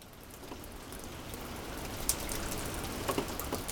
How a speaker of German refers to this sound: Es regnet ununterbrochen.